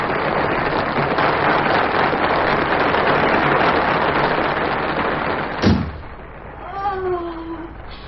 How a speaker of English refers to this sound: You will have many such nights in the years to come, my dear. You will come to expect applause like that as your natural right.